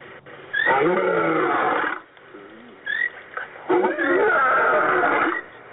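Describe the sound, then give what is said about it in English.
Two loud, rough roars from a lion, each lasting over a second, separated by a brief pause with a few softer grunts in between. No talking. “Find and use your sacred roar.”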